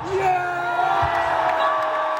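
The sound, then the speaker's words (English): A huge, exceptionally partisan stadium crowd at a cricket match between India and Pakistan roars with loud, sustained cheering, whoops and shouts rising out of a dense wall of voices, filling the whole moment without a break. “The crowd was enormous, exceptionally partisan, and exceptionally loud and enthusiastic.”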